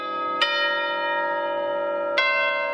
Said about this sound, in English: He grips the wooden mallet and strikes the chimes loudly with authority.